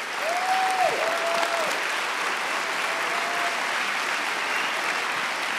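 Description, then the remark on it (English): Sustained applause from a large crowd at a morning church service honoring the older generation of men and women, a dense, even wash of clapping that holds steady throughout, with a faint high whistle rising above it briefly near the start and again later. “would you help me honor and put your hands together and bless this generation of men and women who have gone before us”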